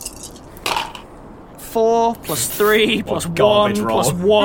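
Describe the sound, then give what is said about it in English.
A few sharp clattering clicks as dice tumble across a hard surface, quickly followed by a person speaking loudly and expressively. “Screw you, dice.”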